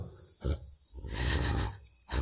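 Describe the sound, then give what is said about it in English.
Deep, rumbling beastly growls come in three close, loud bursts, the middle one long and drawn out, with no talking over them. “The cold moon I feel on my skin. And the wild moon I hear in your growls.”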